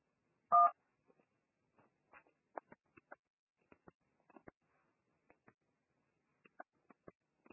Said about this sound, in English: You need to start dialing once again, okay, the telephone number from your dial pad